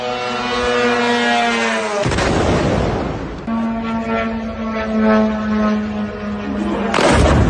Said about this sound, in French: Vous venez d'entendre deux drones Shahed qui se sont abattus ces derniers jours à Manama, la capitale du Bahreïn, similaire à ceux qui ont été lancés sur d'autres capitales des pays du Golfe